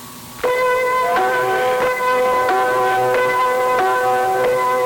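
A Christmas song intro of bright, ringing chimes struck in a steady rhythm, about every half second to second, each tone sustaining over the next, loud with no voices.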